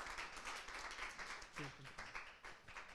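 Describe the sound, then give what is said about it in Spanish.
An audience at an evening church service applauds Jesus as the pastor is called forward, a steady, dense wash of clapping that lasts the whole stretch, with a voice briefly rising over it partway through. “Un aplauso a Jesús, hermanos,”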